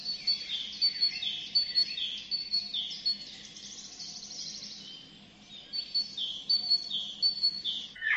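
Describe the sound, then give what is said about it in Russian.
A tit sings in a steady run of high, thin, repeated notes, clear, with a brief pause midway before the bright chirping resumes. No voices are heard. “А это пропела синица.”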